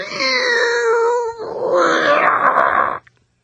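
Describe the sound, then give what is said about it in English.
A person imitates an unhappy cat, the family's cat heard way off in the distance, starting with a drawn-out, wavering moan that turns into a rough, raspy growl, loud, for about three seconds before stopping abruptly. “I said, that would be our cat.”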